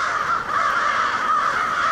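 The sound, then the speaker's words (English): A dense chorus of many crows cawing at once, harsh overlapping calls blending into a continuous loud din with no pauses, from a winter flock of tens of thousands of crows gathering around dusk in Auburn, a small city about 25 miles southwest of Syracuse. “And each winter, a lot of crows do fly to this community of 28,000 people. Tens of thousands of them.”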